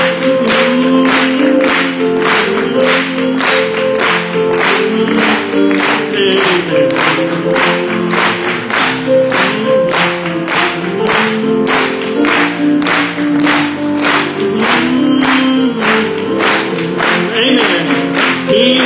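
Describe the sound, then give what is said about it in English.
An audience claps along in a steady, even beat throughout, each sharp clap ringing out over a continuous bed of singing and music of a worship song that carries on underneath the whole time. “Let's clap it to him.”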